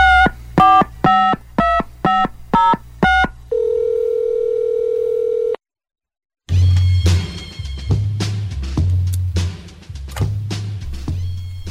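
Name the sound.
telephone keypad dialing tones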